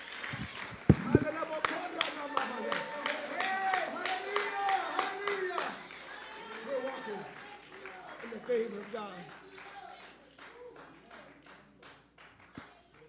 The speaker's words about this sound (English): I wish someone would clap their hands unto the Lord right now.